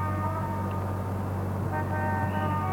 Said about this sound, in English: Rather nice thing, starts up with a lot of car horns.